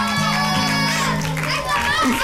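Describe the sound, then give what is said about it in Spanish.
A crowd of excited children shouting and yelling together, their high-pitched voices overlapping in a loud, continuous clamor for about two seconds. “Ay, mira, mira, los niños están oye, locos.”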